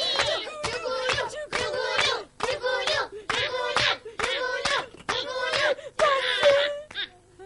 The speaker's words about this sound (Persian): عزیز خانم دست دست. آفرین. بچه جوگلو رو تشویق کنیم.